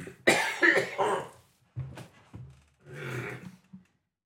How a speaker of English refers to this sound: excuse me, I'm going to cough.